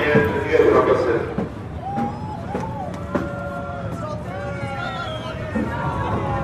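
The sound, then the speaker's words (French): A crowd of people shouting over one another, opening with a loud burst of noisy voices, then overlapping raised calls with rising and falling pitch above a steady hubbub. “Pourquoi tout le monde crie ?”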